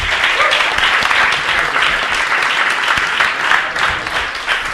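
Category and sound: crowd, audience applause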